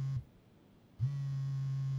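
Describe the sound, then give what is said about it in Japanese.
A smartphone rings with a low, steady buzzing tone that cuts out briefly and then resumes, holding on continuously with no voices. “あれ、お兄さん、スマホ鳴ってますよ。”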